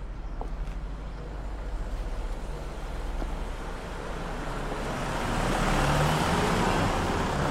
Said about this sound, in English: A black car passes by her.